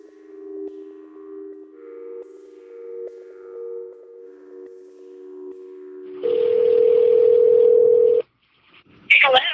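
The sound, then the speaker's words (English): Telephone dialing and ringing tones from a recorded call placed on an undercover phone to the number on an ad play clear, a series of steady electronic beeps shifting pitch, then a louder sustained tone over hiss that cuts off before a brief crackle of pickup. “So at that time I pose as an undercover customer, and I'm using an undercover phone and place some recorded phone calls to the phone number on that particular ad.”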